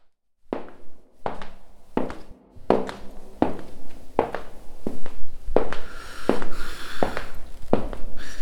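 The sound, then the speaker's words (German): Steady footsteps walk at an even pace, about eleven sharp heel strikes with a hollow, ringing tail, growing slightly louder toward the end with a faint rustle underneath: the composer Robert Schumann walking through the still-empty wooden concert hall of the first Gewandhaus. “Der Komponist Robert Schumann geht ein letztes Mal durch den noch leeren Raum.”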